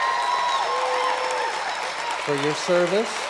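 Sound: audience hand clapping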